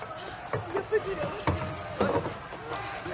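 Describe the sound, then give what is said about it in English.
Oars being drawn into a rowboat, with a few irregular wooden knocks and clunks against a steady, muffled background. “Now bring in your oars over there and tie these two boats together as well.”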